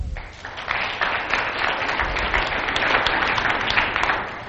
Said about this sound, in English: By a show of applause, how many people like country music?